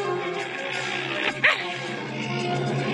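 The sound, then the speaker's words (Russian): A puppy growls in a low, rough, continuous rumble lasting the whole moment, with a brief sharper yelp breaking through near the middle, moderately loud. “Потом вспомнил, как рычал лохматый пес и зарычал.”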